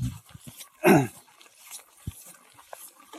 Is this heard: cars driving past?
no